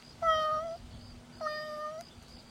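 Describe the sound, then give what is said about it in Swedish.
A kitten playing with a ball meows twice, each call a high, thin, drawn-out mew lasting about half a second, separated by a short pause, clear with no talk. “Kattungen leker med bollen.”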